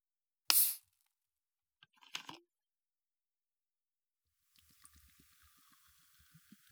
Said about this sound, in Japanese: ワイングラスを持たせてあげましょう。そしてこっちは私のグラス。注ぎますね。